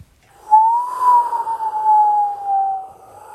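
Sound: whistling wind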